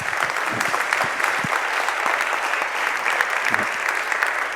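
Steady audience applause fills the whole stretch, a dense wash of many hands clapping at a constant, fairly loud level, with a few sharper individual claps standing out and no talking.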